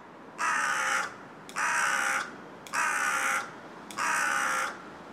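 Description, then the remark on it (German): Four loud, harsh crow caws ring out in a steady rhythm, each about a second long with short pauses between, as crows greet each other on being brought back, one bird cawing in one pitch and the other in another, with no one speaking. “Bei den Krähen ist, wenn man sie zurückbringt, oft eben, dass sie sich gegenseitig begrüßen, dass der eine Vogel dann die eine Stimmlage kräht und der andere die andere.”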